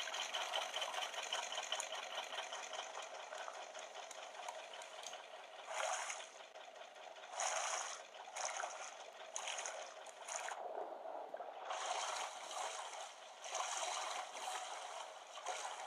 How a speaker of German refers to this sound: Ah, ich kann den Motor wieder ein bisschen anheizen. Komm schon.